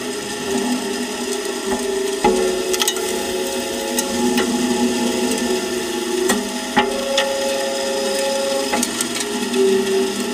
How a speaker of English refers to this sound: Yeah, everything was clicking or something like that. It was ash falling onto a steel hopper. And what we do is that we count the energy, which comes from the ashes to the hopper, and we accumulate it.